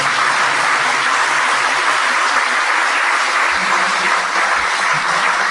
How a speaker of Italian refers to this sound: E qua vorrei fare un applauso al gruppo lavorativo.